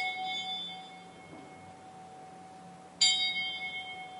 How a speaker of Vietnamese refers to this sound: Ban trung cổ trỗi ba hồi chuông trống bát nhã để cung thỉnh hòa thượng hồi quy phương trượng.